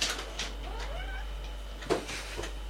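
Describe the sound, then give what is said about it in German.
A cat meows a few times, with rising, drawn-out cries at moderate volume over a faint background hum and some brief rustling thumps. “Ich glaube, dann muss ich die Katze jetzt mal tatsächlich kurz mal wegbringen.”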